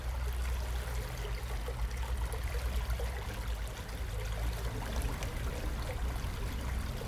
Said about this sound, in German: Zum Vergleich, so klingt das Wasser an der Münsterschen Aa.